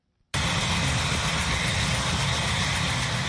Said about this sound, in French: Divers responsables gouvernementaux américains ont assisté ce mois-ci à un vol de démonstration de l'hélicoptère téléguidé K-Max.